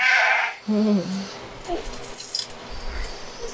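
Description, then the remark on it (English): A goat lets out a loud bleat, a short wavering cry, followed by faint metallic clinking and rustling in the background. “So we're going to head down to the goats.”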